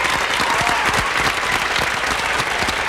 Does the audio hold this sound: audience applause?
yes